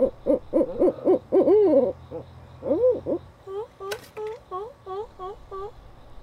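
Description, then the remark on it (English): A pair of barred owls hooting in a loud, rhythmic run of rising-and-falling calls, then a string of shorter repeated hoots, with a worker at Atlanta Wild Animal Rescue Effort (AWARE), a wildlife refuge east of Atlanta at Arabia Mountain, cooing in imitation and one sharp click midway. “She's cooing to a pair of barred owls.”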